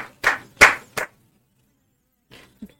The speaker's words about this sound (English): I think Caleb Martin wants to go to the final. Clap for Caleb, goddammit. Clap for Caleb.